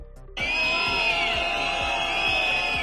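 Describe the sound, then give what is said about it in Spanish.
A loud protest by hundreds of farmers at the gates of the Feria de Valladolid, Spain, during the Goya awards, erupts suddenly after a brief quiet moment, with sustained shrill whistles and horns blaring over shouting and a steady pattern of low thumps; cowbells and firecrackers are used. “Centenares de agricultores se agolpaban a las puertas de la Feria de Valladolid en una ruidosa protesta en la que una vez más quisieron mostrar su hartazgo por la situación que atraviesa el campo.”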